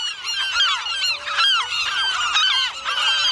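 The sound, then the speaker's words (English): A dense chorus of shrieking gulls swirling and diving overhead at night on Año Nuevo Island, many harsh, overlapping calls rising and falling without pause, loud and steady throughout with no voices. “Thick, angry shadows of gulls swirl above, diving down to peck at my head.”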